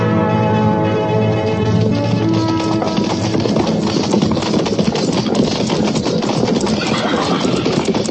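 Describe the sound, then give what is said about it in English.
Hooves of a patrol of cavalry horses clip-clop in a steady, loud, continuous clatter, with ringing bell-like tones sounding over them at the start, in the radio drama Fort Laramie. No one speaks. “And see that their horses are babied right this time.”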